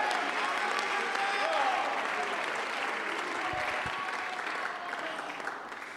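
A large group clapping steadily and continuously, a dense wash of many hands with a faint murmur of voices mixed in, sustained at an even level throughout.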